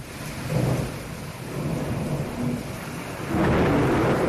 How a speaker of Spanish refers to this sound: Este sonido que ha sido grabado en Dos Hermanas, una de las localidades más afectadas a esta hora por los chaparrones de agua que han caído desde la madrugada y que siguen cayendo especialmente en las provincias occidentales de Andalucía,